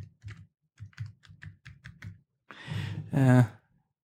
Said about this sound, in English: Tell him we can't talk because we're talking about him on the podcast. Okay. I'm typing in the dark here.